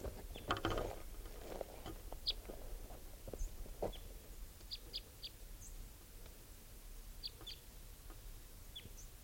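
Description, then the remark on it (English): A bird gives a type 3 flight call: a scattered series of brief, high, chirping notes, some in quick pairs, over a steady low rumble and a few clattering knocks at the start. “So, just collected that bird, and he'll be bird 633, and there's the third type 3 calling now.”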